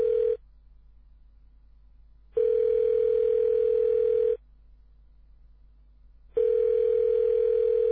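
A phone's ringback tone: a steady, clear electronic hum sounding in two-second bursts separated by two-second silences, repeating evenly with no voices.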